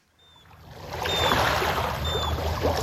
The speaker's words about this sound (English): Gentle waves lap at the shore of Camino Island, north of Seattle. It's a typically quiet day at Kama Beach State Park.